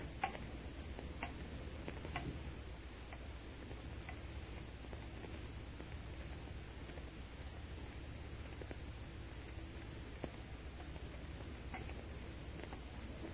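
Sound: clock ticking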